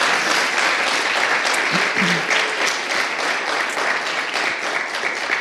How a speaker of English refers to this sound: Can we give our tech and musicians a round of applause?